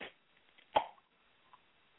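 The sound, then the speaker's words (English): A beer can is opened in London, cracking with a single sharp pop and a brief fizzy rush, clear, followed by a faint click and then quiet. “Well, he for everybody that didn't pick up on that, the subtlety, the nuances with non-visual, that was the opening of a adult beverage.”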